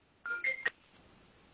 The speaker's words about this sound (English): Hang on, phone's ringing.